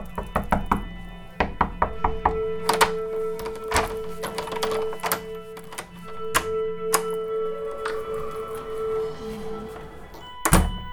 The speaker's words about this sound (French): Une personne qui frappe à la porte et après la referme.